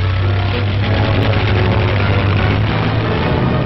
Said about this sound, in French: Les escadrilles de bombardiers décollent.